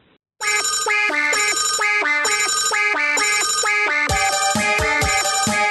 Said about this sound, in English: Oh, boy. Phone, it's the phone. It's the devil's phone.